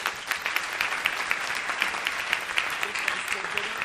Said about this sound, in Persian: خب عالی، تشویقش کنیم.